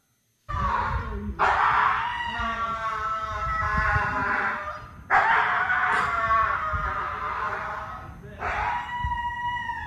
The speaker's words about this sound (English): I mean, it sounds like a dog. Please be more specific. Oh. Like as in what it's doing? Yeah, what is going on with that dog?